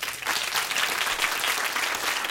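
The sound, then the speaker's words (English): A live radio audience at Minnesota Public Radio claps to show who volunteers, a dense, even wash of applause that stays loud for the whole couple of seconds with no voices over it. “By show of applause, who in here volunteers?”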